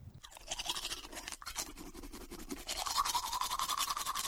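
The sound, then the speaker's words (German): A toothbrush scrubs teeth in quick, steady back-and-forth strokes, fairly loud, with the wet bristly scraping growing more intense toward the end. No one speaks. “Diese Nacht schlief er glücklich mit der Zahnbürste im Mund ein.”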